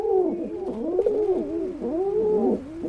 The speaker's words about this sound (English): It's easy to imagine, when hearing soft cooing sounds like these, why baby pigeons would rather stay in the nest.